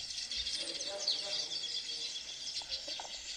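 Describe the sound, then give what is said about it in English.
A dense, continuous wash of high-pitched chirping from many birds flying around a tree full of their nests, steady, like a busy flock calling. “These are all nests. They are all nests. And there are all birds inside, all flying around.”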